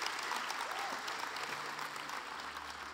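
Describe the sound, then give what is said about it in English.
Steady audience applause fills the room, a dense wash of many hands clapping at once, sustained and fairly loud for the whole stretch without letting up. “Yeah, give them another big round of applause.”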